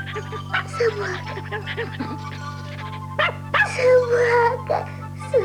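A tiny long-eared puppy yaps and yips cheerfully in quick, bright bursts in a hallway, with a low steady hum running underneath the whole time.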